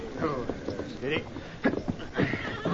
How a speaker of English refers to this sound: And here's the horse that carried him.